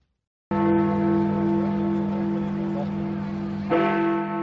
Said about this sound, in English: These are the chimes of the Big Ben clock in London. They rang out at 11 p.m. on the 31st of January 2020, signifying that the United Kingdom had ceased to be a part of the European Union